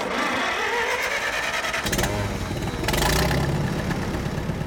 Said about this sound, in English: A makeshift pump draws fresh water from an irrigation ditch. It spurts out from a pipe onto the dry ground.